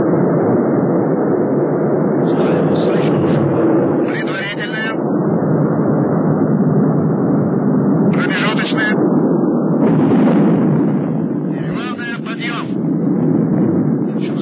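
A deep, continuous roar of rocket engines at the liftoff of the Soyuz-28 spacecraft, launched in March 1978 to the Salyut-6 orbital station. The roar is loud and steady throughout, with intermittent sharper crackling bursts rising above the rumbling thunder.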